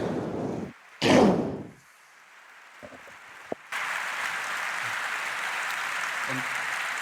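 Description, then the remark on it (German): An audience claps in a steady, hissing wash that swells in after a brief loud thump and a few scattered knocks, then carries on evenly to the end. No voices are heard. “Großer Applaus.”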